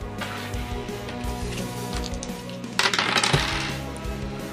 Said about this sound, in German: Dann würfel einmal Schadenspunkte. 4d10, bitte.